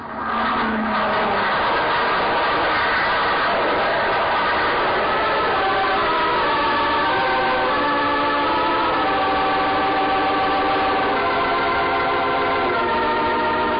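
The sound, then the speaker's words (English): A propeller plane's engine drones loudly and steadily throughout, its buzzing harmonic tone wavering and shifting in pitch as the aircraft turns, comes in low across the field and lands. No one speaks. “landed the plane”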